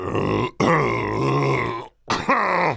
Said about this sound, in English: Oh, sorry. I had to clear my throat. It's the spring allergies, is it?